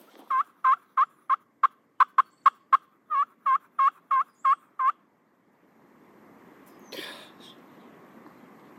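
A turkey gobbles in a long, rapid rattling burst of about sixteen throaty notes, loud, followed by quiet rustling background noise and one brief sharp sound.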